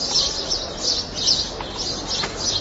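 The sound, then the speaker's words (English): Birds chirp continuously in bright, overlapping bursts, fairly loud and steady, with a busy outdoor hiss beneath and no one speaking. “Yeah, no, we're not going to talk about the birds that you heard in the background.”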